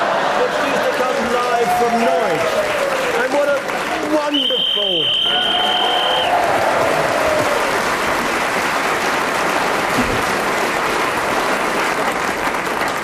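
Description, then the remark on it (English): A studio audience cheers and applauds loudly and continuously for the television programme Sale of the Century, a dense roar of clapping and shouting voices, with a shrill whistle cutting through for a couple of seconds partway through. “I must thank our audience here for that wonderful cheer you gave for Sale of the Century.”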